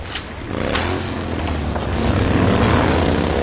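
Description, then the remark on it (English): A motorcycle engine roars by, its low growl rising and holding steady and loud, with a rough, throbbing buzz that swells toward the end. No one speaks. “Damn motorcycles, they're a scourge.”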